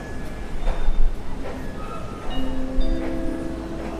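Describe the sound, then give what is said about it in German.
A train departs from platform 1, its steady low rumble joined by rising electric motor whines and faint metallic tones, continuous with no voices. “Please take care while the train is departing.”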